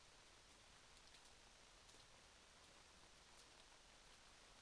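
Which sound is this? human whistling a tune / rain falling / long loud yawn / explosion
rain falling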